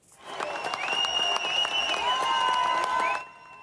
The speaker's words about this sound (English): Fans were cheering there as the 74-year-old guitarist waved on the way out of the venue.